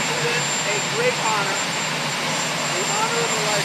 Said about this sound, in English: Now that we'll never have to endure another one of these again, can I just ask, how long does it take to start a helicopter? Like, wouldn't it have been better to wait until he got in before firing the thing up?